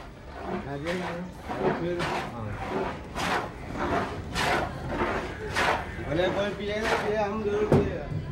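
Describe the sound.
A hand plane scrapes along a wooden board in steady, rhythmic strokes, about one every half second, close by, with voices murmuring underneath.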